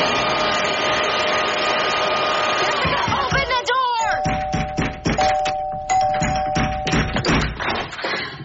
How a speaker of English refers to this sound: Ringing this bell for half an hour.